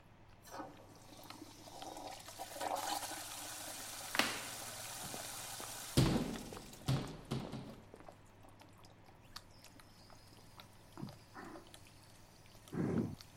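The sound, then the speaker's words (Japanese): Water runs from a washbasin tap in a steady hiss for several seconds, then eases off, leaving a quieter stretch broken by scattered knocks and clicks. No voices. “水の音がしますし、洗面台でお化粧直してるのかも。”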